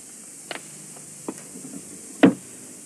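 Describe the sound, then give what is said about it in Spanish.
A few sharp wooden knocks and clicks spaced apart, ending with a louder solid thump, as a large wooden trunk with drawers is closed again and locked with a key, with no talking. “Vuelve a cerrar el baúl con una llave que guarda en el bolsillo.”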